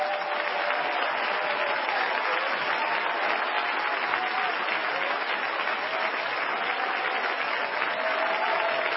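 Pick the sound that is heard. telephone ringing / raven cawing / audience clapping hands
audience clapping hands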